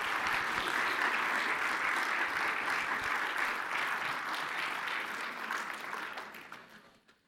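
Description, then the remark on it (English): An audience claps steadily and loudly, dense overlapping applause holding for several seconds before thinning out and fading near the end. “Let's give him a round water of applause.”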